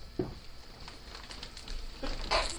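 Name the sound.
sneeze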